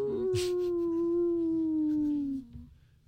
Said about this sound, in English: Was that you? No, it was a dog. Your lips didn't even move.